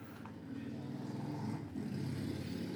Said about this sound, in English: Pause for the motorcycle.